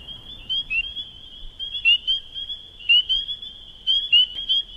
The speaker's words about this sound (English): And what you'll hear is, you hear the spring peepers and then the sound of a leopard frog, which almost sounds like a stomach growl, and how she reacts to that sound.